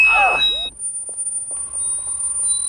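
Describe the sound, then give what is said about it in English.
A loud, piercing squeal of audio feedback bursts out with harsh screeching tones as someone attempts to change frequencies, then cuts to a thin, sustained high whine as steadier electronic tones creep back in. “As they attempt to change frequencies, there is a loud squeal of feedback.”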